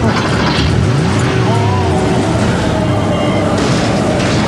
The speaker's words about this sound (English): That bus just got dropped on top of that Porsche. Oh, my God. I hope no one was in that car.